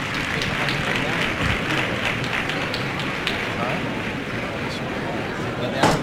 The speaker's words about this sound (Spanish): Y se suceden los gritos. Algunos le aplauden, otros mandan a callar.